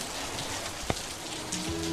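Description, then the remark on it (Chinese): Steady rain falls in a dense, continuous hiss, with one sharp drip or tap standing out midway. No one speaks. “今天怎么又下雨啦？”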